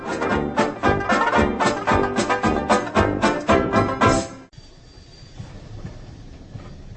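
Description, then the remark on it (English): A slow Czech train rolls along the rails with a loud, rhythmic clatter of wheels over the joints, then abruptly drops to a softer, steady rumble. “We're not quite sure what led us to spend 19 days on an uncomfortable, agonisingly slow Czech train.”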